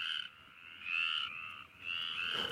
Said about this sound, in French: Les chants du soir dans nos campagnes. Les chants des petites grenouilles arboricoles, vertes aux yeux d'or. Les chants des rainettes.